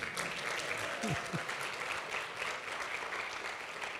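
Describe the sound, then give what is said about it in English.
A soft, polite golf clap for Jesus from a crowd: a steady patter of light clapping that holds evenly for about four seconds, with a brief low vocal murmur early on. “Yeah, give Jesus a golf clap if you want.”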